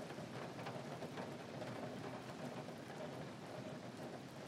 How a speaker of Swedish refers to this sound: Kan du höra hur regnet faller? Det prasslar mot taken och droppar sakta ner på marken.